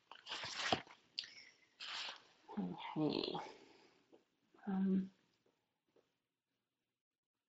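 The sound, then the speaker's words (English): Sipping and swallowing noises from a drink of water, with a few short wet gulps and a bit of handling rustle, followed by a brief spoken word and a quiet pause. “Excuse me, just having a sip of water.”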